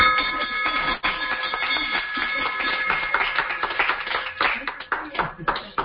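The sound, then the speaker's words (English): A bell is rung to mark a graduation, with bright, sustained metallic tones that fade as a crowd breaks into steady applause. Voices cheer and talk underneath, and the clapping grows denser toward the end. “The bell can ring and receive your turn it up.”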